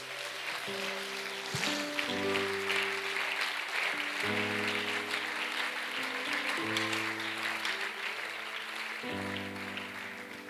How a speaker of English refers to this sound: God, we give you praise and honor. Would you give God a hand clap of praise?